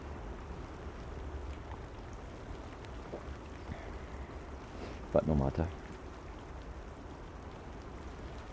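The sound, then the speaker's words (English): Steady, dense heavy morning rain patters throughout, a broad continuous hiss with splashes, while a man briefly speaks over it partway through. “But there again, I really am getting soaked this morning. That rain's quite heavy.”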